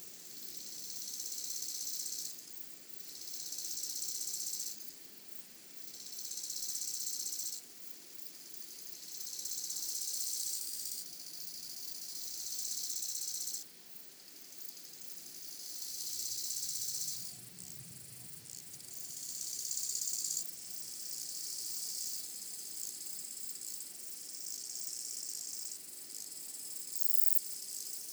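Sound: crickets chirping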